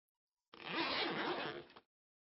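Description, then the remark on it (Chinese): A single zipper on a leather outfit being pulled open in one steady stroke of a little over a second, a clear rasp heard alone against silence. “嗯，这里合着的地方叫拉链。”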